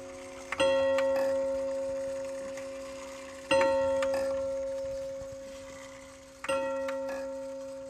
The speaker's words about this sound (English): Oh, let's go listen to the clock ding-a-ding-dong. It's 10 o'clock.